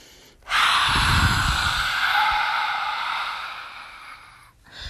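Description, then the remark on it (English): A long, forceful breathy exhale through an open mouth with the tongue stuck out, the yoga lion's breath, loud, rushing out for about four seconds before tapering off, with no talking. “So to add to the weirdness, you could stick your tongue out as well while you're breathing out.”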